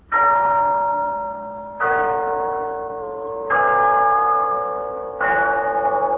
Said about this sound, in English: Yes, there's the clock in Glen Falls Town Hall, telling us it's time for Rinso's story of Big Sister.